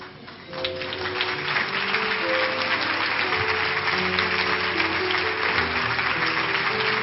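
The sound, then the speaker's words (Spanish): An audience applauding the Lord during a church service, steady dense clapping that rises quickly after the first half second, with faint sustained musical tones underneath. “Le damos un aplauso al Señor que regresó a la orilla.”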